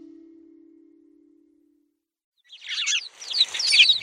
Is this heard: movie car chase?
no